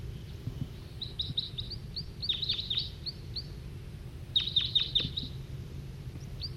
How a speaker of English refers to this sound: Another wild bird's coming in, giving flight calls.